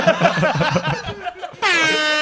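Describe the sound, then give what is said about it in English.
A rapid, dense flurry of loud air horn blasts played as a sound effect, then a single sustained, brassy air horn blare held steady to the end, loud, with no talking. “can we get some air horns over there?”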